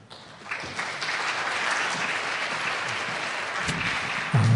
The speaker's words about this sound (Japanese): 拍手を持ってお迎えしましょう。